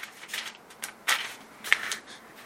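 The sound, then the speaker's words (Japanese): Soft papery rustling of New Testament Bible pages being turned to page 314, with a few sharper flicks standing out from a steady, low background of page shuffling, as though many people are leafing through at once. “新約聖書のですね、314ページを、開けてみてください。”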